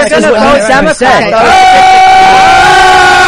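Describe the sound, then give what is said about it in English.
Several voices shout at once in a loud, overlapping clamor, one voice rising into a sustained high yell near the end; chaotic, with no clear words standing out. “Everybody just starts yelling.”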